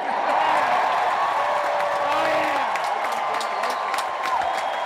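A large convention crowd roars with sustained applause and cheering, a dense, steady wash of clapping and voices that stays loud throughout without a break, reacting to a Teamsters speaker's line that Trump has proven to be one tough S.O.B.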